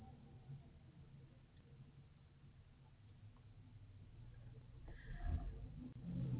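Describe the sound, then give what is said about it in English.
Steady low rumble of road traffic, growing louder near the end as a vehicle seems to pass. No one speaks. “Oh my goodness, as you guys have to suffer through listening to traffic as I'm finding the one I wanted to find.”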